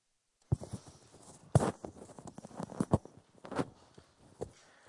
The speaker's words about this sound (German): Das war der Wind. Ich habe mich gewundert, dass der Wind noch nicht vorbei ist.